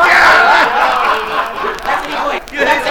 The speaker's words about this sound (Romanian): Venim din mulțimea asta pe care ai auzit-o strigând.